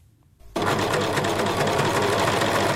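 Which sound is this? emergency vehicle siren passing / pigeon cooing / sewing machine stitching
sewing machine stitching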